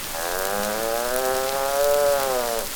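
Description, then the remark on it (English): A human voice imitates a cow in the meadow on a farm with one long, sustained moo, a steady droning tone with rich harmonics that holds for over two seconds before cutting off. “The cows in the meadow, they go.”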